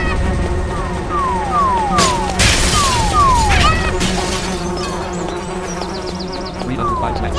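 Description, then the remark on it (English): In a video game level, a dense swarm of bees that drop light bulbs drones steadily throughout, loud, while repeated falling whistle-like tones and a couple of sharp crashing bursts cut through the buzzing. “There's a freaking bee. There are swarms of bees dropping light bulbs.”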